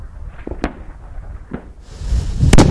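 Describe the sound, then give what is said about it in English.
Marines fire artillery and a sniper rifle: three sharp, cracking shots ring out at uneven intervals over a low rumbling background, with the rumble swelling louder toward the final, heaviest blast. “The Marines respond with artillery and with the sniper rifle.”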